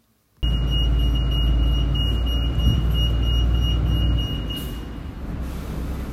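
A heavy truck engine rumbles steadily with a deep, loud drone and a faint high whine, easing slightly toward the end. The trucks are carrying donated goods from a collection point at a theatre to a new market hall. No clear loading sounds stand out.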